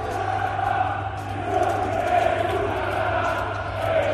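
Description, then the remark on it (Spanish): A large arena crowd at the Palacio chants in unison against player Nikola Mirotic, singing "Es una rata, Mirotic", a steady, loud roar of many voices with a rising and falling sung rhythm that swells midway and holds throughout. “Por cierto, el partido siguió así, con estos gritos del Palacio contra Nikola Mirotic, que volvía.”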